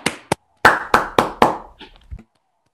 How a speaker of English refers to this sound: Yeah, that's all. I'll give a round of applause.